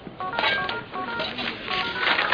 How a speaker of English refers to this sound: answer your phone.